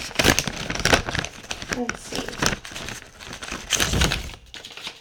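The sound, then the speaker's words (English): The plastic packaging of an eye mask crinkles and crackles in bursts of crisp, irregular rustling, fairly loud throughout, while a voice briefly speaks over the handling. “know what'll cheer me up? An eye mask.”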